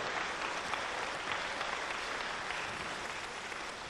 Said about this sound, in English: Yeah, give a clap for Anna Jesus. Anna vaan taputusta Jeesukselle.